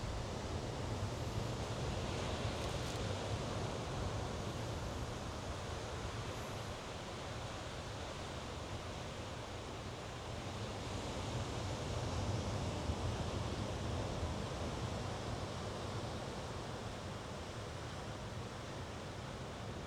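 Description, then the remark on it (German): Continuous ocean surf rolls steadily for the whole stretch, a broad, even wash of waves with gentle swells in intensity and no voices, like a soft shoreline. “Du darfst dich reinfallen lassen in die Atmung und in die Wellen im Hintergrund.”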